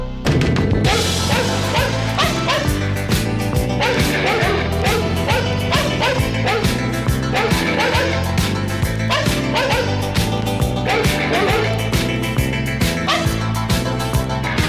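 Synthesized dog barks pitched like notes repeat in a steady rhythm over a loud, bouncy pop backing track on the B-side of a 45 rpm single, yapping along to the melody throughout, with occasional whimpering yips mixed in.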